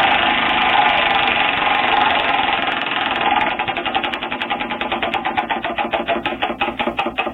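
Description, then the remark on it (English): A prize wheel, the 'wheel of culture quarterbacks', whirs in a fast, steady rattle, then its clicks separate into distinct ticks that gradually slow as it winds down. No one speaks. “So today, as every day, 3 a.m. hits, and we spin the wheel of culture quarterbacks.”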